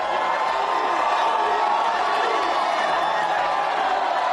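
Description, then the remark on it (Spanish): A large street crowd of FC Barcelona fans in the streets of Barcelona cheers and shouts continuously, a dense roar of many voices celebrating the team as league champions, with steady low thumps pulsing underneath at a regular beat. “Miles y miles de culés por las calles de Barcelona celebrando ahora mismo con los campeones de Liga.”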